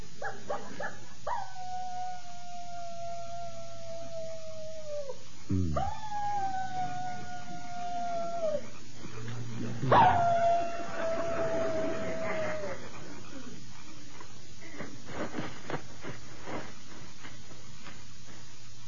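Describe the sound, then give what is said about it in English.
A voice imitates a coyote, giving three long, drawn-out howls that rise sharply then slide and fade, spaced a few seconds apart over a low steady background hum. “How'd you like my imitation of a coyote?”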